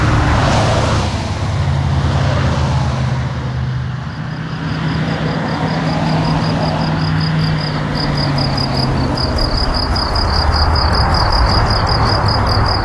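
A heavy truck rumbles past on the truck side of a man's house, its deep engine drone swelling and then fading, while crickets keep up a steady, high-pitched pulsing chirp in the background.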